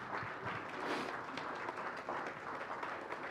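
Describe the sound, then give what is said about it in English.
A church audience claps together during a service, a steady, dense wash of many hands that holds at an even level for a few seconds, with no distinct voices standing out. “Remembering, we give God the glory when we clap, right?”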